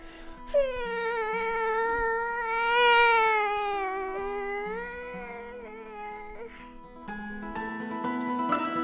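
A toddler lets out a long, drawn-out wavering wail, fairly loud, lasting several seconds before fading into quieter background sounds.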